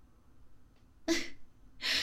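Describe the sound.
Two loud, breathy exhalations about three-quarters of a second apart, like a tired person panting hard with a stocking stuffed in their mouth. No talking.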